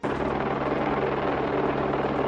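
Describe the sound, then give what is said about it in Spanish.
A helicopter drones steadily overhead above the Raval neighbourhood of Barcelona, its dense rotor and engine roar filling the air at a constant loudness with no voices present. “Un ruido de helicóptero que dejaba claro que algo estaba pasando en este barrio.”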